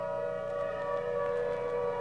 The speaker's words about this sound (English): Walking home from the supermarket, Nye hears the distant song of the fire siren.